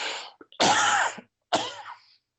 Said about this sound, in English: Excuse me, I'm going to cough again. I'm sorry, I have allergies.